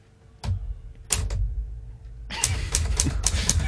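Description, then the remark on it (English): A few sharp mechanical clacks from a typewriter, followed by a quick, noisy ratcheting rush as a typed sheet of paper with a poem is whipped out of the machine, fairly loud, with no talking. “the paper has been whipped out of the machine, and it's got its stamp.”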